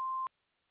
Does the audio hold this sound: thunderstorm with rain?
no